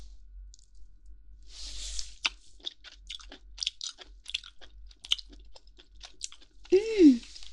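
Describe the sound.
Crisp chewing of crunchy pork jowl meat from the chin, crisper than the cheek meat, a steady run of sharp crackling bites with a few soft breaths, ending in a short voiced murmur of enjoyment.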